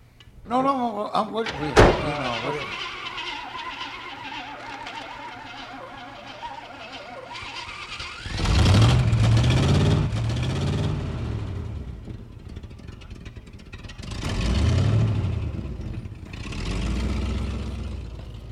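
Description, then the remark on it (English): A truck door slams shut once with a sharp thud, then the truck's engine, which is acting up, cranks and turns over, revving in rising bursts several times. “Because I don't know, you might have to give us a jump because my truck kind of acting up.”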